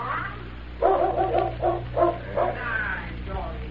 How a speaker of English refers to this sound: The dog. Someone's coming, boss.